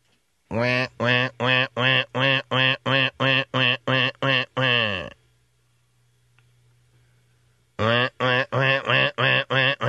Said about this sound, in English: Well, now I'm thinking, okay, it's possible there's some wildlife out there that is in some distress. Maybe it was hit by the lightning. It sounds like a duck that is stuck or caught or is in some distress.